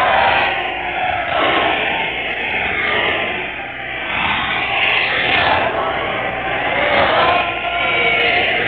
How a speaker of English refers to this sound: Yelling for a speech from him, and as he looks down with a smile that is pleased, out he comes again, looking out of the window.